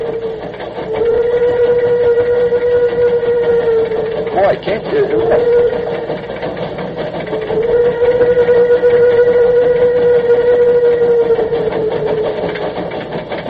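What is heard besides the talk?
steam locomotive running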